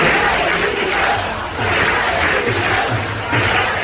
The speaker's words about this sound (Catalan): Atenció al que cantaven ahir des de les graderies del estadi Johan Cruyff durant el trofeu Joan Gamper femení.